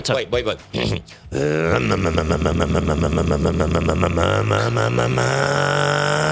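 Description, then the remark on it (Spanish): A few short vocal bursts, then a sustained, buzzing voice imitation of a chainsaw engine, loud and steady with a rough low drone and a rasping, revving texture for about five seconds. “No, perdón, es una motosierra. Escucha, tiene hasta el grave cogido.”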